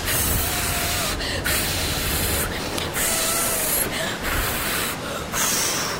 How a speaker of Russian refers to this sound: Дим Димыч изо всех сил стал дуть в паруса игрушечного кораблика. И тот полным ходом пошел вперед, рассекая водные просторы ванны.